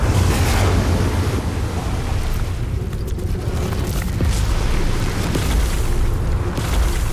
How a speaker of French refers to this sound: Imaginez des marées avec des vagues de plusieurs mètres de haut.